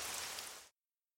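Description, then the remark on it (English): A brief burst of steady, loud, hissing rainfall that cuts off abruptly into silence after well under a second. No voices. “Oh, no! It looks like rain!”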